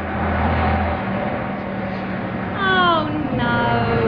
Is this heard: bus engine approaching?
yes